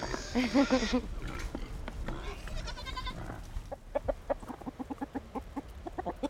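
chickens clucking

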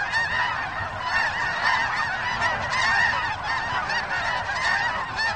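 flock of birds calling

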